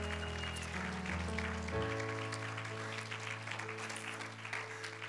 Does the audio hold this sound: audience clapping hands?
yes